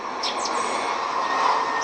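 A steady, broad jet-engine roar from a Ryanair airplane flying overhead in North County Dublin, Ireland, fills the whole clip, with a few high bird chirps poking through the noise. No one speaks.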